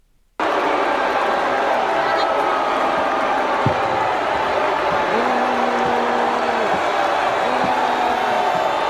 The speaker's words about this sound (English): So this is a video actually from the audience. This is not an official feed from a news source. So you hear way more boos than you would hear on a real recording.